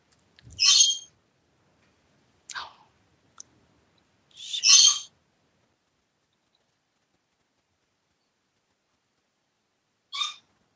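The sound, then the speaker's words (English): A handful of short, bright bird calls ring out at irregular intervals, each a quick burst followed by stretches of silence, clear with no talking. “it seems that the birds are quite a unique little festive addition to this call.”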